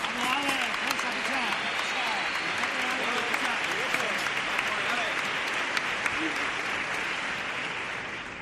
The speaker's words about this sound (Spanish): Le vamos a dar un aplauso que lo está viendo desde casa, ¿vale? Para él.